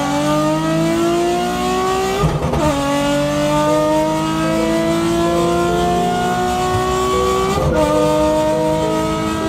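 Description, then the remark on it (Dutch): A 350Z sports car's 3.5 liter V6 engine revs hard, its pitch climbing steadily through the gears with two sharp shifts that drop the tone before it rises again. No voices. “De zuivere lijnen van zijn ontwerp en natuurlijk die overheerlijke 3,5 liter V6 die met het juiste uitlaatsysteem fenomenaal klinkt.”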